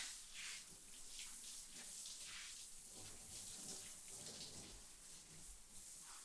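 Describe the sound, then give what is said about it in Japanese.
Hot water runs steadily from a shower for several seconds, a continuous hissing, splashing stream, as someone's hair is rinsed before shampooing, with no voices. “どう？お湯加減大丈夫？”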